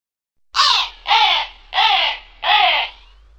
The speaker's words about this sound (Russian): Ворона и сама уж не могла терпеть. Ворона каркнула во все воронье горло.